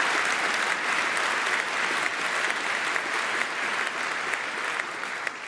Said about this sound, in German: Da gerne einen Applaus für, genau.